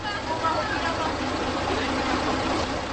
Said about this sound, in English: Yet the creaky old Karosa bus heading towards Krkonoše or Giant Mountains is almost full when I arrive at the bus station.